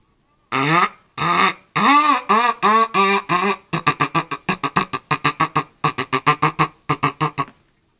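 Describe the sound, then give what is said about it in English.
A person imitates a duck, starting with several drawn-out nasal quacks and then breaking into a fast run of short, rhythmic quacks, loud with no other sounds. “Then there's a duck.”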